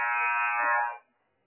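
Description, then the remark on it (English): The second buzzer of a one-minute timeout at a Lafayette Jet High School girls' basketball game: a single loud, steady electronic buzzer blares for about a second with a harsh, harmonic-rich tone, then cuts off abruptly into silence. “And here comes the second buzzer.”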